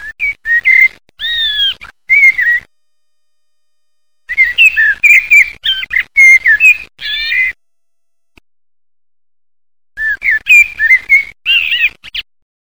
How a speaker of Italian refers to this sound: Il merlo.